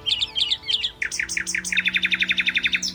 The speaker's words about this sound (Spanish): Esos gorjeos eran reales.